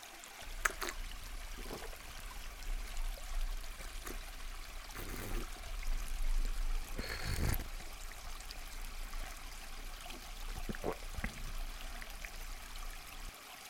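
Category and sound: nature, trickling stream water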